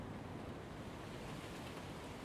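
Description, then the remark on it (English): Strong wind picking up as Storm Dorothy approaches, heard by a steel shed: a continuous rushing roar with a heavy low rumble beneath a broad hiss, unbroken for the whole stretch and with no voices. “Wind is picking up.”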